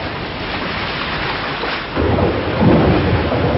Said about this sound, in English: It rained heavily that night. The rain was pouring down, cleansing the atmosphere, washing the leaves and flowers. The torrential rain poured in streams from the patient, silent, happy female swan.